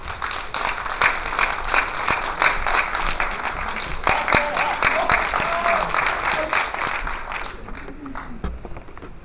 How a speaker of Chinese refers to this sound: 下面就让我们以最热烈的掌声有请侯老师。